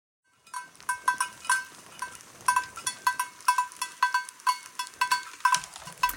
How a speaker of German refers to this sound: Ein Tier war nämlich darunter, ihr habt es gehört. Das hatte eine Glocke am Hals. Vermutlich so ein bisschen wahrscheinlich das Herdenoberhaupt oder so. Es war auf jeden Fall ein Männchen. Es hatte ein Geweih.